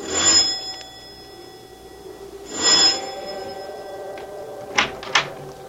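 A doorbell at a large oak door at the top of stone steps rings twice in the rain, a few seconds apart, each chime leaving a lingering metallic tone, followed by two sharp clunks like a door latch. No one speaks.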